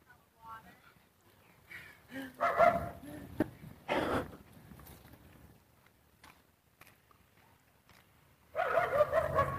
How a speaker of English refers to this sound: Dog on the corner.